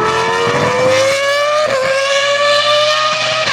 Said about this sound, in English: No matter which engine noises get you revved up, the Motorsports Minute has you covered with all of them.